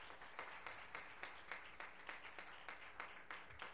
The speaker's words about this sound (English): Praise God. If you love Him, give Him one more hand clap of praise. Hallelujah.